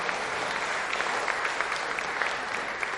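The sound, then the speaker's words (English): An audience applauds steadily, many hands clapping in a dense, continuous patter with sharp individual claps popping out, sustained at an even level throughout, welcoming two babies born in late December at a New Year church service. “Are they happy to have a round of applause and just sort of show them?”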